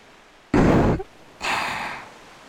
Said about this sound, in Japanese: ここはね、私のお腹の中なの。ほら、聞こえるでしょう、波の音。これは私の鼓動。